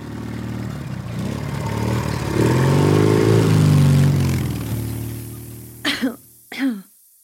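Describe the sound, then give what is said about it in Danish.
A motorcycle engine idles, revs up to a steady droning peak and winds back down, then two sharp coughs follow. “Den der helt sorte røg, der kan komme ud af udstødningen på sådan en motorcykel, synes jeg altså er ret fæl.”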